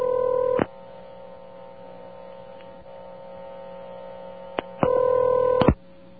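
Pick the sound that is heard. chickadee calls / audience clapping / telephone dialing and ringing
telephone dialing and ringing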